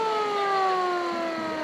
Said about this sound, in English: That's the siren on a fire truck that was actually at the 1915 PPIE. We have made it as close as we can get to the original fire truck, and it's a drivable, operable fire truck.